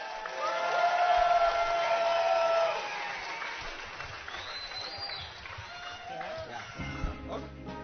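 A live audience claps and cheers, loudest over the first few seconds with a whistle-like tone, then the applause thins to a softer patter as a voice comes in near the end.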